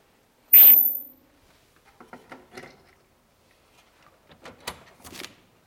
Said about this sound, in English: I'll move the clock, by the way.